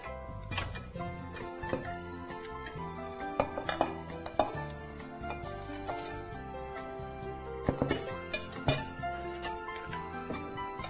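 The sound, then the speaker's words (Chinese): Pieces of freshly fried potato clatter into a cooking pot of braising liquid with onion and shiitake mushrooms in a few sharp, scattered knocks, over a steady background of music. “再有，我们刚刚炸好的这个马铃薯可以放到锅子里面来哈。”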